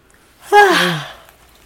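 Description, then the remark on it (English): A person lets out a single audible yawn, a breathy voiced sound that starts high and slides down in pitch before trailing off into a soft exhale. “Don't yawn.”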